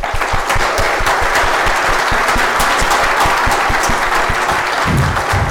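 Sustained audience applause, many hands clapping in a dense, steady patter at a fairly loud, even level for several seconds, with no voices standing out above it.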